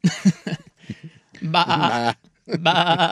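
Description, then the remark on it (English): A person mimics a goat, letting out two loud, quavering 'baah' bleats, preceded by a few short breathy vocal sounds. “It was a bah! I said, that! Like a goat wandered in.”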